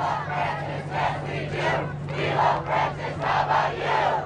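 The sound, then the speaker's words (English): A large crowd on the tarmac of Andrews Air Force Base, just outside Washington, ahead of Pope Francis' arrival, its voices swelling in rhythmic, chant-like waves about twice a second over a steady low mechanical hum, with no single voice standing out. “An honor guard on the tarmac of the base ahead of Pope Francis' arrival, as people in the crowd are getting ready as well.”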